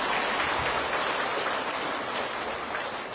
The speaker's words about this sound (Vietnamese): Hiểu ý đó, cho tràng pháo tay.